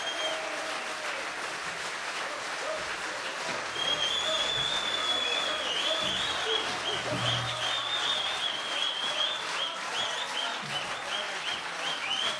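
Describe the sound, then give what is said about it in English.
A large audience claps steadily for about twelve seconds for a performing act from America, the applause growing fuller partway through, with shrill whistles and scattered cheers cutting through the dense clapping. “Faites du bruit encore pour …. Applaudissez-les, applaudissez-les.”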